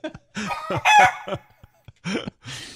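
A rooster crows loud, harsh and strained, broken into several choppy bursts over a few seconds, ending with a rougher, noisier squawk.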